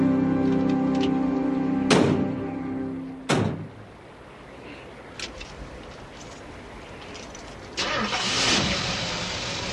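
A truck engine hums steadily, broken by two heavy door-like thunks, then a rougher, rumbling stretch and a final surge of noise as the truck gets going on the road.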